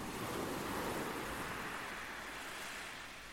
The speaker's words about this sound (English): These waves you're listening to were recorded at Deal on the cloudy afternoon of May the 6th, 2021.